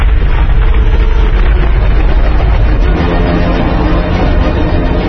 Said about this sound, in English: I'm getting a seismic reading. What's happening? T-phase. Underwater earthquake.